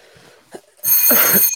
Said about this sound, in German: Oh, jetzt kriege ich hier ein UPS-Paket. Oh. Jetzt muss ich einmal gleich zur Tür. Warte mal, es klingelt jetzt kurz. Jetzt hörst du meine geile Klingel mal wieder.